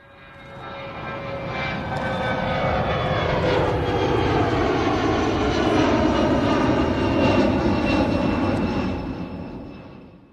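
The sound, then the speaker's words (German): A loud aircraft engine drones steadily for about ten seconds, swelling up and fading slightly at the edges, with shifting whining tones layered over a broad roar. No voices are present. “Okay, das war nicht der Privatflieger von Friedrich Merz und auch nicht der Jet von Franz Josef Strauß, den du ja schon erwähnt hast, aber sowas Ähnliches”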